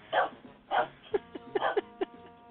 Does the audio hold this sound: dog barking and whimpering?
yes